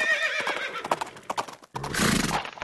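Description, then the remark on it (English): A horse lets out a loud, wavering whinny, followed by a burst of hooves clip-clopping with a rustling, snorting flurry at the end. “Do you know how long it would take to go by horse?”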